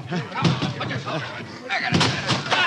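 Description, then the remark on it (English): Heavy thuds and slams as a door at the Goldman Tavern is broken in during the search for Booth, two loud splintering blows standing out, with agitated voices shouting underneath. “Break in the door!”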